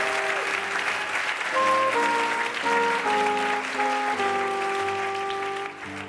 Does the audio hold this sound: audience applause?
yes